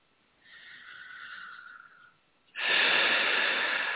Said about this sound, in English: And just keep breathing.